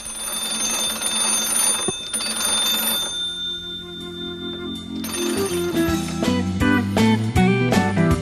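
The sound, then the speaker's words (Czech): Two old magneto telephones, the oldest in Serbia, ring with a loud, rapid metallic bell rattle. A brief calmer stretch in the middle separates two bursts of ringing, and no one speaks. “Ovo je zvuk 2 najstarija induktorska telefona u Srbiji.”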